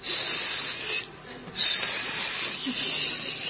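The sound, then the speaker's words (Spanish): A steady, airy hiss of gas escaping, bright and breathy, briefly softening for about half a second before surging back and continuing unbroken to the end. No voices are heard. “Bueno, oyes un siseo.”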